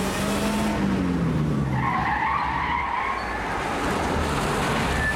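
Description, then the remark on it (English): A car engine roars as tires skid and squeal loudly, the whine of the wheels sliding in pitch over a steady, dense rush of road noise as the vehicle tears away from a bar and down a quiet back street. “in Easy's car, they speed away from the bar and down a quiet back street round the corner”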